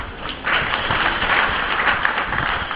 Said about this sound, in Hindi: इसी तरह आप लोगों की तरह सभी भक्त ताली बजा रहे हैं, लेकिन जब ठाकुर जी को एक फूल देने की बात आती है ना, तो सब लोग अपना मुंह फेर लेते हैं।